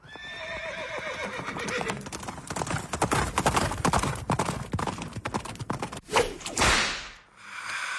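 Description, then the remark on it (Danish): Horses clip-clop in a rapid, clattering rhythm of hoofbeats, with a loud whinny at the start and sharp whip cracks near the end. “Skal lige ud af studiet. Ud med de heste.”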